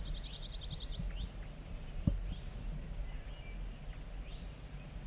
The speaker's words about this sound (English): We're getting zert zert song from bird 4-3. Very soft.